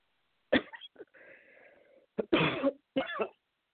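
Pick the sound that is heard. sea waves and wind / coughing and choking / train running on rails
coughing and choking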